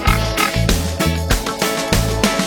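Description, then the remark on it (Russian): A pig grunts and oinks in a quick run of about five short, rough snorts, loud, with no talking. “А вместо слов спасибо и благодарю, ответит свинка очень просто хрю.”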